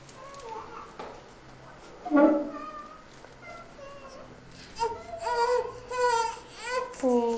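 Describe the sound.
A baby cries in several short, wavering wails that grow more insistent toward the end, after a stretch of softer fussing and quiet background voices.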